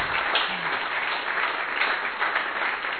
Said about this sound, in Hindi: तो ऐसी तालियों के साथ हम लोग शुक्रिया करेंगे परमात्मा का।